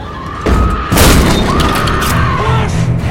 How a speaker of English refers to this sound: An axe smashes through the door.